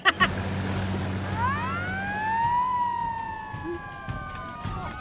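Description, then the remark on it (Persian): A police siren rises and sweeps in a long wailing tone, steady, over a low engine rumble and some background noise, with a couple of short knocks at the start. “ای بچه ها پلیسی بودایین پلیس اومده پایین”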